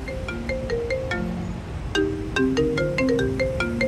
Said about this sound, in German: Wieder einmal bekommt Debbie Dribble von den FCW-Frauen einen Handyanruf.